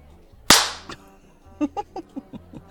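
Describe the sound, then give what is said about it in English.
A single-tail whip lands with one loud, sharp crack that rings off briefly, followed by a quick, evenly spaced run of about seven softer, short thuds. No one speaks. “Now, slut, would you prefer to start with the sting of a cane or the bite of the single tail?”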